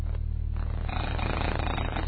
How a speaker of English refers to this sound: And that's the sound the buzzer makes.